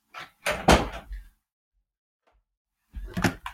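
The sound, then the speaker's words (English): A door is handled and pushed shut to keep a cat out: a clattering thud with a brief rattle, a pause of silence, then another short burst of knocking and latching. “So funny how cats just hate closed doors.”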